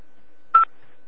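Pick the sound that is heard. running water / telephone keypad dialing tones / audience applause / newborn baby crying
telephone keypad dialing tones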